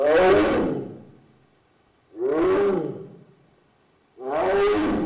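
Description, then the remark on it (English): A tiger in a park enclosure roars three times in a steady rhythm, each deep, rumbling call loud, with brief silences between them and no voices; he is calling to his female mate in the next enclosure. “The tiger is talking, Jenkins says, to his female mate, one enclosure over.”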